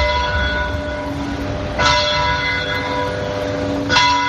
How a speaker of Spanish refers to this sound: Pues el reloj de la plaza era manual hasta hace 8 años, porque entonces instalaron una maquinaria más moderna y automática y descuidaron esas piezas originales. Eso sí, las campanas siguen sonando igual.